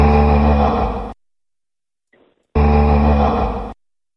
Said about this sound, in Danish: Ja, men det må være en gris. Bare sådan noget runge, det lyder fuldstændig. Det er nemlig en gris.